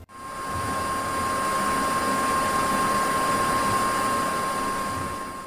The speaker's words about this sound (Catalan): Allà es van trobar un tipus d'arma que es deia el caçavirus. Semblava una màquina aspiradora. Sense pensar-ho, van agafar una a cadascun i van començar a caçar-los.